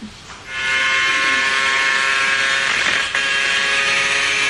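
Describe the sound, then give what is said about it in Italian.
A Formula 1 car engine heard from an onboard camera, a loud, high-pitched whine that surges up within the first second, then holds steady with a brief dip near the end, like a gear change. “non so se voi siete appassionati di Formula 1, anche se no, adesso ascoltate qui”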